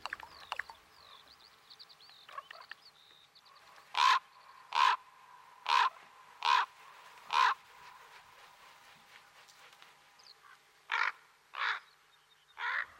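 Loud, harsh raven calls ring out in a series: five evenly spaced croaks, a pause, then three more, with faint chirping birds in the background and no talking.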